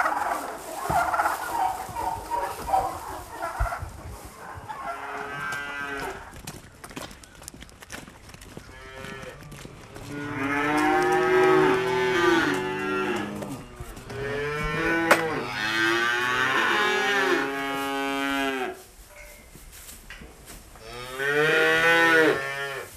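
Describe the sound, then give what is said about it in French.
Young calves, two to three months old, moo repeatedly and loudly, several overlapping bleating calls rising and falling in quick succession, with a steady background and no talking. “C'est des veaux qui ont 2 mois.”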